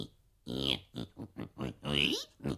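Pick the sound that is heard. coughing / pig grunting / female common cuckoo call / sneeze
pig grunting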